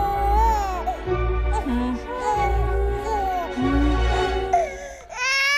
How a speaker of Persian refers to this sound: باشه، طوری نیست عزیزم، گریه نکن.